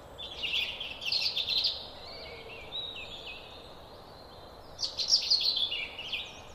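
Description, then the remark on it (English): A European robin sings its thin, wistful autumn song: bursts of high, rippling warbled phrases separated by short pauses, over a soft, steady outdoor hiss. “The autumn song of the robin is the soundtrack to shortening days, gathering mists and ripening fruit.”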